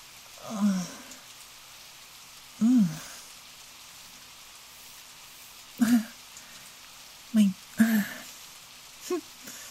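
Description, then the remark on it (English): Steady, even hiss of heavy, pouring rain fills the whole scene as a person stands soaked in it, punctuated by a handful of short voiced sounds like grunts or murmurs rising above it. “Don't you just want to swim in all this rain?”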